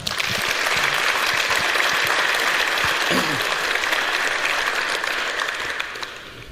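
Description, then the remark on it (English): Sustained applause from a large audience welcoming the speakers of a talk on cryptography and formal proofs, dense and steady for several seconds before gradually tapering off, with a brief faint voice cutting through near the middle. “A warm round of applause, please.”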